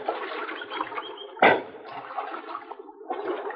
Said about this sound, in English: And we climbed out from our horses and got a drink of water.